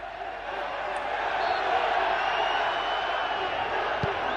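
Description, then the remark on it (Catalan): A dense, steady football crowd roar fills the whole stretch, with voices in the throng making racist gorilla-imitating hooting and grunting noises mixed faintly into the background din. “Aquestes són onomatopeies imitant a un goril·la.”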